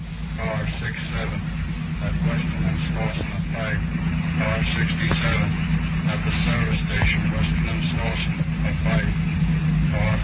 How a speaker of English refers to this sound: A police radio car is cruising near Mrs. Gregory's home.